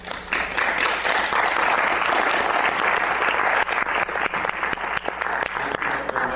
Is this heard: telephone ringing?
no